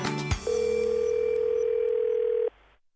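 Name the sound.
telephone ringing tone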